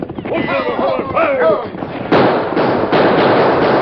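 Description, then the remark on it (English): A man shouts urgently, then loud gunfire breaks out in a shootout at a boat by the shore: three or four sharp, booming shots in quick succession, each followed by a rough, crackling tail that fills the gaps. “Keep shooting hard so as we drop anyone that shows himself. Keep shooting, boys!”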